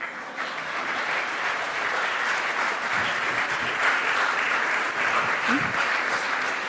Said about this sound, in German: dafür habe ich ein paar Vertreter auf unser Podium hier eingeladen, für diese Konferenz extra gekommen von weit her, und ich lade Sie jetzt mal ein, dass Sie hier reinkommen und vielleicht begrüßen Sie diese Vertreter mit einem höflichen Applaus.